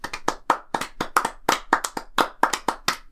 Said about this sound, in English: So, you know, let's give them a little Pre-… round of applause.